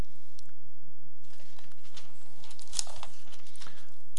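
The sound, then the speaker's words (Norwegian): A paper page of a maths exercise is turned to the next page: a soft, papery rustle that swells for a couple of seconds, with a sharp crisp snap near the end, over a faint low background hum. “Så da må vi bla om på neste side.”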